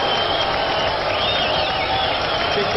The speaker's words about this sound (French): Des sifflets auxquels Pialla répondit sur scène par son fameux « Je suis surtout content ce soir pour tous les cris et les sifflets que vous m'adressez. Et si vous ne m'aimez pas, je peux vous dire que je ne vous aime pas non plus. »